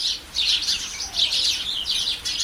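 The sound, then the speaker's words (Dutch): Three small birds whistle and chirp in a steady, overlapping chatter of high, bright notes, fairly loud, with no voices. “ik zie en hoor daar 3 schone vogeltjes die schuifelen, fluiten.”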